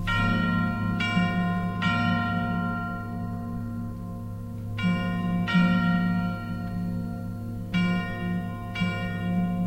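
Church bells ring out in pairs of strokes, each bright clang leaving a long shimmering hum that lingers between strikes over a steady low drone, fairly loud with no voices.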